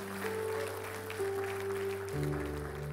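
An audience applauds, a dense, continuous patter of many hands clapping for about three seconds, moderately loud, with a steady low hum running underneath and no one speaking.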